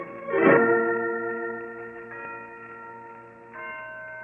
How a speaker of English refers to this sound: Listen to those bells, Holmes. Yes, Watson, the historic Blandford bells. They've been ringing from that bell tower for 3 centuries.